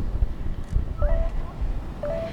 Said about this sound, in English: And then I can just click start, and it's going to start beeping. And every time it beeps, that's it taking a reading.